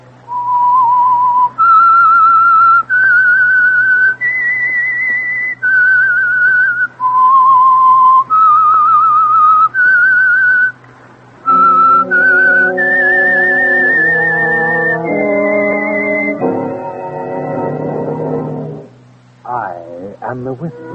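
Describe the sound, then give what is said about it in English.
A clear, loud whistled melody of sustained stepping notes plays alone over a low hum, then orchestral chords join in beneath it before the tune fades out near the end. “That whistle is your invitation to listen to the Household Finance Corporation program, The Whistler.”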